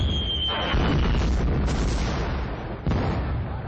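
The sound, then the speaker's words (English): Heavy, rumbling blasts from mortar shells raining down on a forward command outpost roll together into a continuous low roar, with a sharp fresh impact near the end; loud, no voices. “With each volley, the explosions got closer and closer to the command bunker.”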